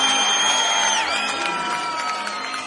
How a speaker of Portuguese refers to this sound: Aplausos